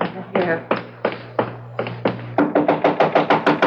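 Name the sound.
knocking on a door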